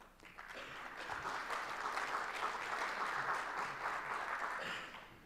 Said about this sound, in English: I wonder if you guys are clapping for the 20 minutes we're giving you back.